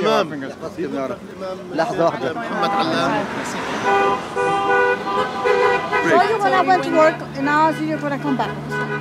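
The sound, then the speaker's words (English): Passing cars in Southwest Brooklyn honk their horns repeatedly for a candidate amid street noise, some long sustained blasts and shorter toots overlapping, with cheering voices and crowd chatter mixed in throughout. “Cars were driving by, honking their horns for him.”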